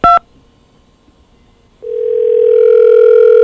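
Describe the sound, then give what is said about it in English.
A telephone line dialing through to a guest room at the Impala Motel: one short, sharp dual-tone beep, a pause of near silence, then a steady, buzzy ringing tone that swells in and holds to the end. No one speaks. “it just dials right into that room”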